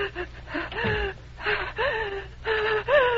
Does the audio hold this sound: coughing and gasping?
yes